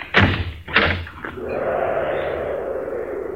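A door leading to the street is handled with two heavy thuds in quick succession, then a steady rushing wash of outdoor ambience follows. No one speaks.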